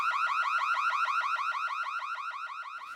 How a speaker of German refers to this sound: Wir haben nur ein Alarmgeräusch gehört.